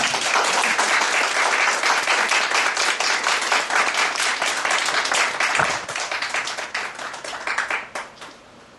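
A church audience claps steadily in warm, sustained applause to welcome a speaker coming up to give a testimony, a dense patter of many hands that holds strong before thinning out and fading toward the end, with no one speaking.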